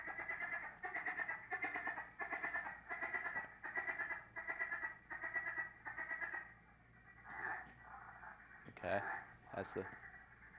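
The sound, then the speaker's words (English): A frog calls in a steady series of about nine short, pulsing, mid-pitched trills, each lasting half a second. A few softer, irregular calls and a couple of sharp clicks follow. “And that'll really kind of be a good key, because its call does sound similar to another species.”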